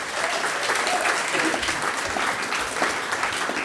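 An audience at a concert at the Grachtenfestival applauds a music group steadily for several seconds, a dense, even wash of many hands clapping at a fairly loud, sustained level with no talking over it.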